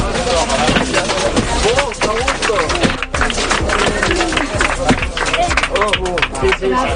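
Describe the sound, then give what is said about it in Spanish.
Passengers inside a high-speed train from Valencia to Madrid-Chamartín applaud amid a loud, dense babble of many overlapping voices, with sharp hits scattered throughout the steady crowd noise as a passenger strikes the window glass with a safety hammer. “La gente, lo has escuchado, incluso aplaude o da las gracias.”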